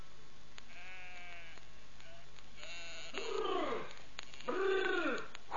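Sheep bleat in overlapping calls as the flock returns from grazing, a couple of loud, wavering baas rising over fainter bleats from the rest of the flock, with no talking.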